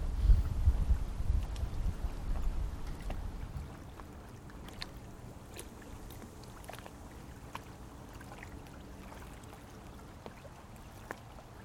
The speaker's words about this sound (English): One of my favorite moments was just sitting dockside by the Merrimack River. I heard some boats in the background, and the wind blowing, some birds chirping in the distance.